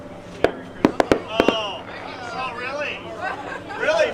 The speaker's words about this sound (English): Watch your ears! Around 15 passengers on the Nolani rush forward to watch the firework explode in a golden shower above the boat.